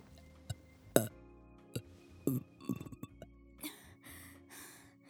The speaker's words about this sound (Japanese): こんなのおかしいよ。ゲップ止まんないよ。